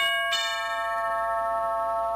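A doorbell at 39 Stevenson Avenue rings out with a single bright chime, a sharp strike and a long, steady ringing decay, clear with no voices.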